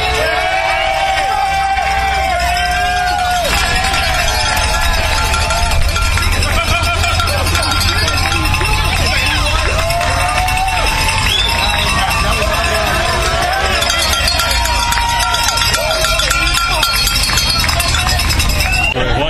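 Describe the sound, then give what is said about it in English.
Bells clang and ring steadily along a bike race route as the motorcade passes, amid a noisy crowd, bright metallic tones layered over shouting and chattering voices with a low rumble beneath, staying loud throughout. “Getting some bells.”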